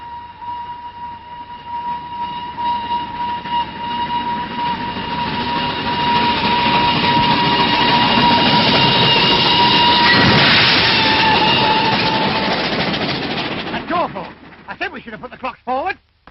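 A train rumbles along the rails, swelling to a loud peak as it passes by, with a steady high metallic squeal running through it before the noise breaks up and fades.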